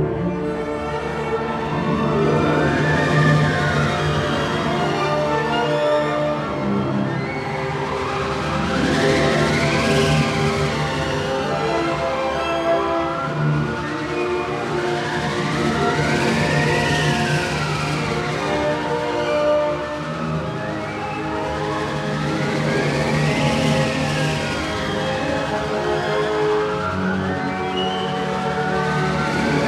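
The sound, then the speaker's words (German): A full orchestra plays a stormy passage in Richard Strauss's Don Quixote while a wind machine howls in rising and falling swells. The swells repeat every few seconds over dense, sustained strings and winds. The music depicts a blindfolded ride through the air on a wooden horse. Loud and continuous, with no voices. “Bei Richard Strauss auf den Böen eines vielfältig differenziert blasenden Orchestersturms samt Windmaschine.”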